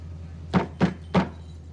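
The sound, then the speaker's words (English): A police officer outside a house knocks three times on the front door, firm and evenly spaced, with a steady low hum underneath and no voices. “Outside, a police officer is knocking on the front door, but a frightened Kevin's taking no chances.”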